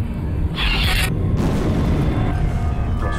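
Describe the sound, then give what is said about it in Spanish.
A loud, deep explosion booms and rolls on, its low rumble sustained with a burst of crackling debris noise early on, no voices present. The explosion struck the town of Santa Rosa at night on 23 May 1993, raising dust, breaking windows and destroying 16 houses. “La explosión fue muy ruidosa, atemorizante.”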